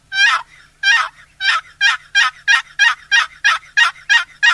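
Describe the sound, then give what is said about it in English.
A rapid series of about thirteen raspy turkey yelps scraped out on a one-piece wooden box call, loud, the notes coming evenly and quickening slightly toward the end, with no talking. “What I like about the call box call, too, is that it's in one piece, carry it easily in your pocket, and it makes realistic turkey sounds.”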